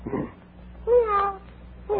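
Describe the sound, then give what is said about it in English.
A person imitates a cat with a single drawn-out, wavering meow, fairly loud, with brief softer vocal sounds just before and after it. “Meow.”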